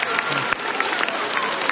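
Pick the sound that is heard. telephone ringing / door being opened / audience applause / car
audience applause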